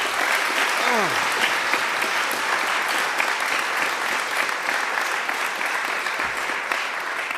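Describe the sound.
Sustained applause from a sizable audience welcoming a talk on modern command-line tools, steady and dense clapping filling the whole stretch at fairly loud level, with a faint voice briefly rising underneath near the start.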